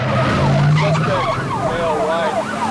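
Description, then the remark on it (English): A police car's tires squeal loudly as it whips a 180-degree turn to chase a getaway car in Worthington, Ohio, a continuous wavering screech riding over a steady engine roar for a couple of seconds. “An alert police officer spots the getaway car and whips a 180.”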